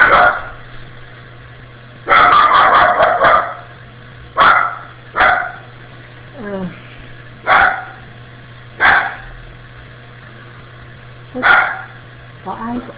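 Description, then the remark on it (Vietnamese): Two small dogs bark repeatedly after a door is opened to let them into a house, a quick flurry of loud barks followed by single sharp barks spaced a second or two apart, over a low steady hum. “Tình nguyện nó đã mở cửa cho hai con chó nó đi vô thôi, nó phụ con chó đến đó cho khỏi đo đi vô nhà, chỉ vì không cảm thấy dạ trời.”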